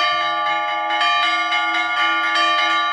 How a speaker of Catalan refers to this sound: Nosaltres som a l'església de Sant Romà de Joanetes, on es farà el curs amb quatre campanes que ens han fet sonar i des de dins el campanar realment impressionen.